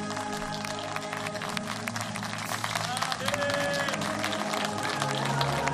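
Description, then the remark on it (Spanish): Sustained applause from a large stadium crowd at an Olympic Games medal ceremony, applauding the San Marino medalists: a dense wash of clapping that swells slightly toward the end, with a public-address voice and broadcast chatter mixed underneath. “Hay aplausos para San Marino.”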